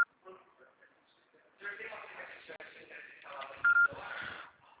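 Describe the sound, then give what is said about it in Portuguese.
A telephone number is dialed for a call from the Banco Santander credit department: short, loud keypad beeps at a steady pitch sound near the end, over a background of indistinct voices and line noise. “eu ligo agora.”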